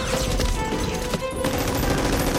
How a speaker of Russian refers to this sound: Ранний утренний подъем под стрельбу автоматов.